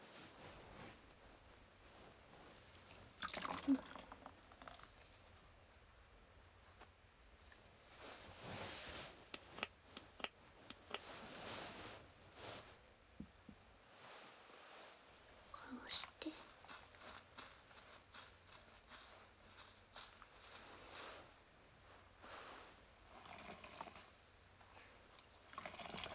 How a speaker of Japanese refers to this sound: こうしてスポンジで泡を作って、こうするときめ細かい泡ができてすごく気持ちいいんですよ。